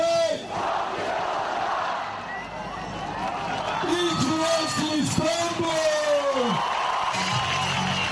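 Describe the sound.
A huge crowd of opposition supporters celebrates late at night in Istanbul, Turkey, cheering Ekrem İmamoğlu's win in the rerun mayoral election, roaring continuously, with loud voices rising into rhythmic, drawn-out shouted chants midway through and high whistles cutting over the din.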